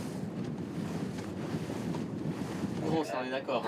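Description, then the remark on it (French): A small boat chugs along through harbour water in the port of Antwerp, gliding beneath huge cargo ships, its engine rumble steady beneath wind buffeting the microphone and the wash of water, with a brief voice breaking in near the end. “Le petit bateau de … promène généralement des touristes dans des endroits plus bucoliques”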